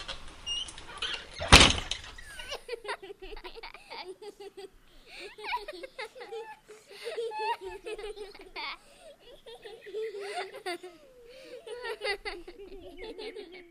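A door swings and shuts with one firm thud near the start, after a brief rush of noise. Voices follow, with light, giggly chatter continuing in the room.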